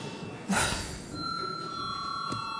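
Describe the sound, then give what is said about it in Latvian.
A session bell in a parliament chamber, rung a second time as deputies are called to register their attendance, starts after a brief thump and rings continuously in a steady, sustained electric tone at moderate volume against quiet background noise. “Lūdzu, vēlreiz zvanu.”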